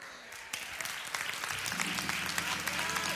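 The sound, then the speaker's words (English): An audience claps steadily for a few seconds during a story about a man brought back to life, a dense patter of many hands with no single voice standing out, while a low hum rises underneath partway through. “But if you're clapping at that part, you're gonna really like the other part, because that's just the step to the story.”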